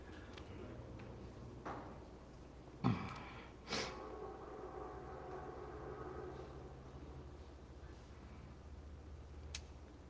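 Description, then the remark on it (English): A train rumbles past, a steady low drone broken by a few brief clanks and thuds. No one speaks. “I'll wait for the train to pass by.”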